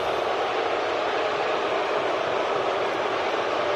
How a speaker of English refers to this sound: I just want the people to hear the boos loud and clear one more time. Let's hear some booing.